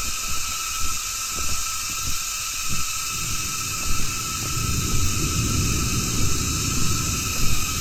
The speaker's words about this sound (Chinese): 我们现在的位置是在杭州的云溪竹径景区里面，现在天色已经非常的暗了，估计一会儿要下大雨。现在是下午的将近4点钟，然后刚才还没有蝉的声音，现在蝉的声音突然响起来了。